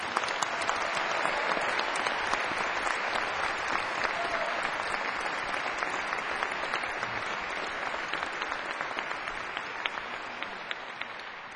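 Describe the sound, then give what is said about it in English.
An audience claps steadily and fairly loudly for Bryce Winston, a jazz competition winner, at a jazz performance. It is a dense patter of many hands that holds for about eleven seconds and tapers off only slightly at the end. Nobody speaks over it. “How about a nice round of applause for Bryce Winston?”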